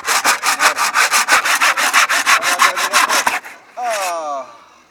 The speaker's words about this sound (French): Et donc on passe à cette deuxième machine équipée d'une scie. Voilà, ça va être très très long.